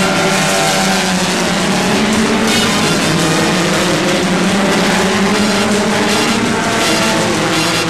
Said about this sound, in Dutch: Het publiek is intussen voldoende opgewarmd voor een race van de Formule Ford 2000.